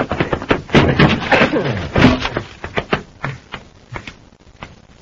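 A door opens with a loud burst of rattling clicks and knocks, thinning after a couple of seconds into scattered, softer taps and thuds.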